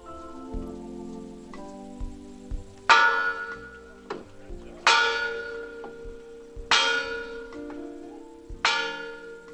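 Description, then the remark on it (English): A large church bell, the bell saved from the 1963 bombing of the 16th Street Baptist Church in Birmingham, is rung by participants, including a lifted child, at a Martin Luther King Jr. commemoration; four strong, evenly spaced strokes, each clang blooming bright and ringing down into a long, humming decay, with faint background noise. “Each of the participants ringing the bell, a child being lifted.”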